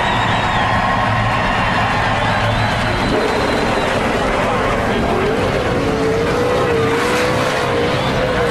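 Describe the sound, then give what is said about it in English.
A race car engine fires up and revs loudly, its pitch climbing and dipping in surges, with a busy crowd roar filling the background. “Driver, buckled up and ready to chase. Start your engine!”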